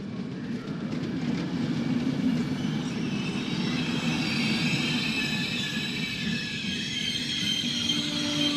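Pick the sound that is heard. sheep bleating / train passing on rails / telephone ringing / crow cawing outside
train passing on rails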